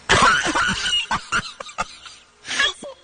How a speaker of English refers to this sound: Turns off my mic so I can cough, right? Uh-huh. But unfortunately, it's next to this button. And this is what happens when I cough and I press this button.